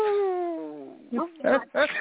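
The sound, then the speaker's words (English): A person lets out a long, loud howl, imitating a werewolf, with the pitch sliding downward over about a second, then a few short voiced bursts follow. “howling at the full moon again”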